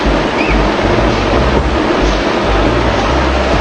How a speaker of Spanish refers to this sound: Ahí vemos el agua cayendo por el cerro, lleno de polvo, de piedras.